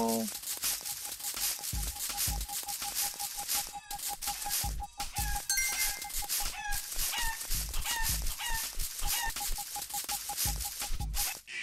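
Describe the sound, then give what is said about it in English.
Loud, busy chicken clucking with rooster crowing from a computer egg-hunt game, repeating steadily for the whole stretch over a dense, crinkly background clatter and a faint steady beeping tone. “The chicken, no.”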